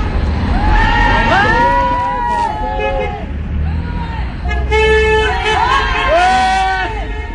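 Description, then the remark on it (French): Car horns honk repeatedly over loud street traffic, several overlapping toots and longer blasts from passing vehicles honking in support of a protest banner outside the Peugeot Citroën factories in Saint-Ouen, France, with crowd chatter underneath. “C'est des voitures qui passent et qui klaxonnent en soutien à la bannière.”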